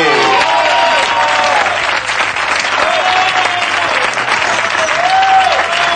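Sustained, loud audience applause, a dense wash of clapping hands that holds steady for several seconds, with faint background voices and a few musical tones beneath.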